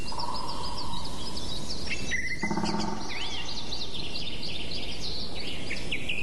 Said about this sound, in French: On entend les oiseaux, le bruissement des feuilles, le vent dans les arbres. Là aussi, tout s'est arrêté.